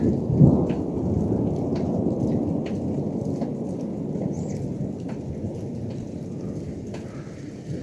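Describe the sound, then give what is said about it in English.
A thunderstorm with a deep, steady roll of thunder rumbling throughout, mixed with the hiss of falling rain and scattered drips. Loud and continuous, with no voices. “A little bit of lightning, a little bit of thunder.”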